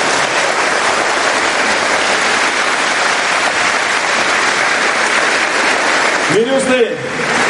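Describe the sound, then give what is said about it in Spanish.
An audience applauds for the Virgin Mary at a priest's request, in a steady, dense wash of clapping that holds at an even loudness for about six seconds, then a voice briefly cuts in as the clapping thins out. “Y para ella sí voy a pedir el aplauso.”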